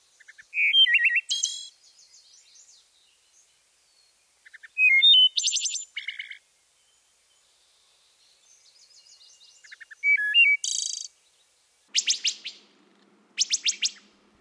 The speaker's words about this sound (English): Now let's go to the beautiful and melodic wood thrush. The wood thrush sounds like a flute. You will hear it in the woods. Its call is a beautiful eole, eole.